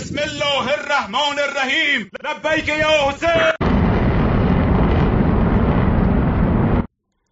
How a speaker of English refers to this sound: These are drones.